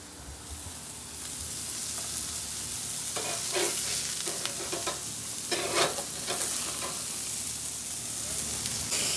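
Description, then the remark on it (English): Food sizzles on a grill fire in a steady bright hiss, broken by clusters of sharper crackles and pops in the middle. The sound is moderately loud and continuous, with no voices. “Oh, that was a fire.”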